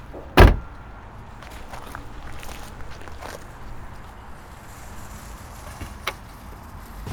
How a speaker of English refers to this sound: Oh, let me get the door for you.